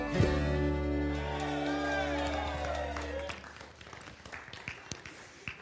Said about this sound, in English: You are clapping because you either empathize or sympathize with that video, don't you?